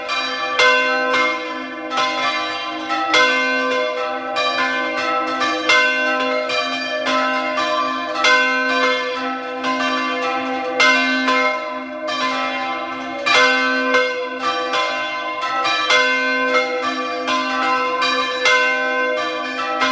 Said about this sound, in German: Es ist 12 Uhr. Sie hören die Glocken der Pfarrkirche zur heiligen Maria Magdalena aus Pfatten in Südtirol.